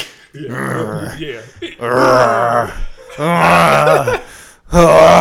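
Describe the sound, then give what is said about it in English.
A voice imitates heavy, labored breathing mixed with drawn-out groans, coming in several loud bursts separated by short pauses. “Yeah, breathing like he on Ozempic.”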